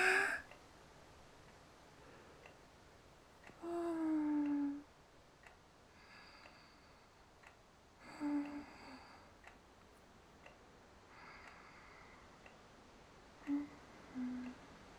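A pendulum wall clock ticks faintly and steadily, joined now and then by a few soft, brief, low-pitched cries.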